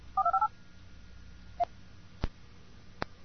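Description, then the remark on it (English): A mobile phone voice-dialing a call over GSM: a quick burst of four or five keypad dialing tones, followed by a single short beep and a few sharp clicks against faint background hiss, with no one speaking. “And you can hear the GSM, and very shortly you'll phone hear the phone. And the phone is ringing.”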